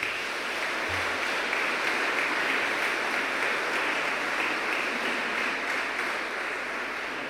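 Sustained applause from an audience for the mayor fills the whole stretch, a dense, steady wash of many hands clapping at an even loudness with no voices breaking through.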